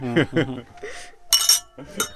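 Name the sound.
glasses clinking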